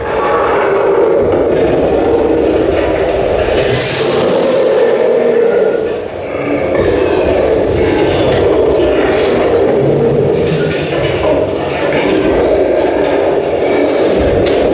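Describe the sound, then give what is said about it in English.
A ride train speeds along tracks that spiral upward, with a steady, loud rumble and rattling, briefly easing around midway before roaring on, dense with no voices. “The track spirals upward, speeding the train away.”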